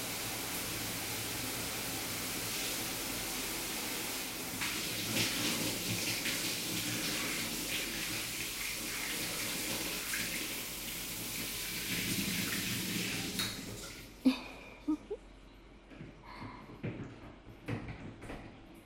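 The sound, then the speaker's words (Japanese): A shower sprays in a steady rushing hiss for about thirteen seconds, rinsing soap foam off a man's genitals from behind, then cuts off, leaving a few scattered drips and small splashes in the quiet. No one speaks. “じゃあ、シャワーかけるわね。”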